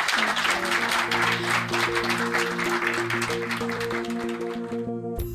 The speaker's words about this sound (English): Please give her another round of applause.